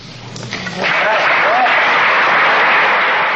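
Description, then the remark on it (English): A large audience bursts into thunderous applause at the end of a university lecture. The applause swells within the first second and continues loud and steady: dense clapping with a few faint voices mixed underneath. “And when the lecture ended, usually 5 or 10 minutes after the bell had rung, you heard something you rarely hear after a university lecture: thunderous applause.”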